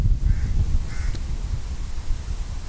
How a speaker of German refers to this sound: Die Krähen immer unser treuer Begleiter.